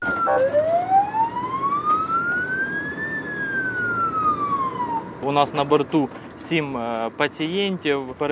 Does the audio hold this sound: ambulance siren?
yes